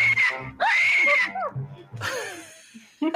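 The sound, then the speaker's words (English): A shrill, wavering screech of a man bat creature, much like a woman screaming, rises in several loud bursts with brief gaps, sliding up and down in pitch, with a few low rumbling sounds between cries. “And that screech, I'm telling you, I feel kind of uneasy right now. It sounds like a lady screaming almost.”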